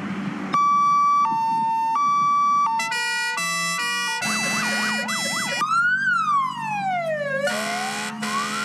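A loud siren of a fire engine from the Rawa Mazowiecka fire brigade, switched on while arriving at a home in Sadkowice, cycles through its modes: a steady two-tone hi-lo, a rapid warbling yelp, then slow rising and falling wails, over a low engine rumble with no talking.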